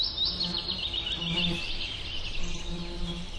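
Steady insect buzzing from wild bees, drawn by eucalyptus scent on Kangaroo Island, hums throughout, with a few birds chirping faintly; no one speaks.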